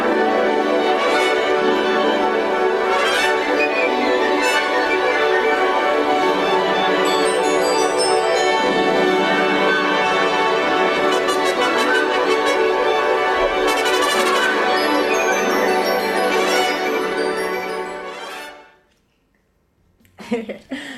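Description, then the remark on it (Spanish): Lively, festive instrumental music from a Stravinsky piece, with bright, chiming small bells ringing through the dense texture and giving it a carnival air, loud and continuous until it stops abruptly near the end, leaving a brief quiet pause. “ustedes ven ahí como este timbre de estos instrumentos, de estas campanitas que suenan, le da este aire carnavalesco a la pieza.”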